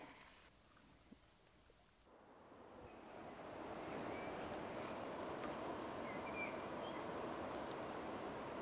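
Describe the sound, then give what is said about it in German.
Steady rushing of crystal-clear, emerald-green river water flowing beneath a small suspension bridge, a broad continuous wash that swells after a couple of seconds and then holds at an even level, with no voices. “Kristallklar und smaragdgrün fließt das Wasser unter uns hindurch.”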